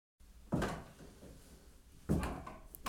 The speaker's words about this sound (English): They sneak quietly upstairs, but the stairs kept creaking.